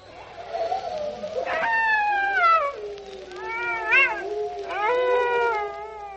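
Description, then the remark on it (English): Dogs, jackals and wolves howl in long, wavering calls that rise and fall in pitch, overlapping one another at moderate loudness, with no talking. “seem as old as the breeds of dog and jackal and wolf”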